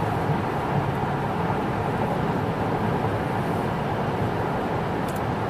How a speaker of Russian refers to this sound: Ну, смотри, вот 60 миль и очень тихо. На 60 милях тихо. Ну что же, я очень доволен. Так, пряменько, да? Мы едем прямо, да, на Саратоге.